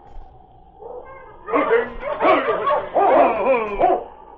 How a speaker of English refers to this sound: He recognized the sergeant and the great dog that entered the barn with him.